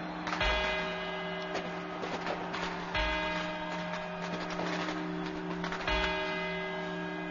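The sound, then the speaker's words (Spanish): Clock tower quarter-hour chimes, the four quarters before the twelve midnight bell strokes, ring out in measured strokes about three seconds apart, each bell tone sustaining and overlapping the next, over a steady low hum with no voices. “Estos son los cuatro cuartos.”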